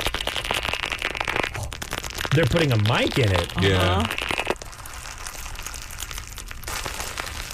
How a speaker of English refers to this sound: Again, this is something where I look at it and like my jaw is just like, I want to eat it. This is crunchy static slime. Oh my God.